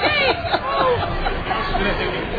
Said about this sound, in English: A large crowd of people has now jammed into the auditorium as listeners, and I think we're going to hear some more singing.